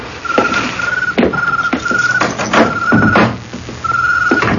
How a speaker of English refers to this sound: The man parks the car in front of Cabana Numero 4, as it is called on the sign posted over the door. He gets out and opens the car door for the woman.